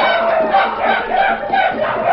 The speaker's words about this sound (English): They brought forth the horses and with wild cries leaped to the saddle.